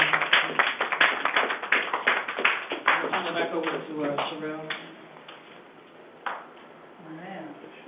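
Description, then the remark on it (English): A church audience claps in a dense, fairly loud burst of applause for a few seconds, giving God praise for a woman of God, then the clapping fades out as voices carry on and a few scattered claps linger. “So let's give God a hand praise for the woman of God.”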